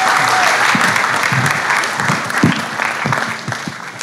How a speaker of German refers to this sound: Lass uns ihr einen Applaus geben.